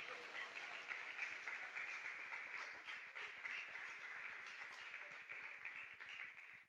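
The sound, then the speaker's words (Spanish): An audience applauds God steadily for several seconds, a dense wash of many hands clapping at an even loudness with no voices rising above it. “Denle un aplauso a Él, todo aquel que quiera estar cerca de su presencia.”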